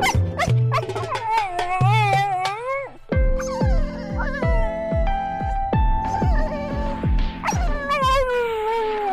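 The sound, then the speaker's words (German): A dog whines and whimpers in long, rising high-pitched cries, fairly loud, then keeps yelping over a steady thumping beat with sustained tones, ending in another drawn-out whine. “Das würde mein Hund dazu sagen.”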